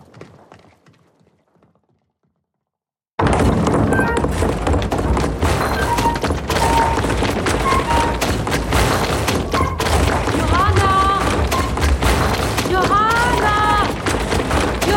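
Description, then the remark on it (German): After a few seconds of near silence, paper mill stamping hammers pounding rags start up loudly, a dense, relentless pounding of heavy thuds that continues steadily to the end. “Und geh gleich zur Stampfe.”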